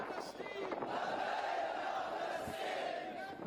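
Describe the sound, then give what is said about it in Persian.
A large crowd of people in Herat chants slogans in support of Palestine, including "Labbayk ya Quds", a loud, dense roar of many raised voices that holds steady for a few seconds with slight rhythmic surges. “از مناره های مساجد تا کوچه های قدیمی شهر فریاد لبیک یا قدس در آسمان پیچید و مردم هرات صدای همبستگی با ملت فلسطین را به گوش جهان رساندند.”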